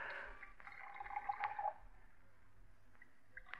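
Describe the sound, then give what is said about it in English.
Brandy is poured from a bottle into two snifter glasses: a soft trickle of liquid lasting a couple of seconds, its pitch rising slightly as the glass fills, then fading to quiet. “If anyone should see us, Mr. Brown, I'll pour, Elsie.”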